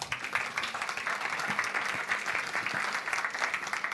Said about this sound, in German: Ein Applaus an unseren Engel mit dem Mikrofon.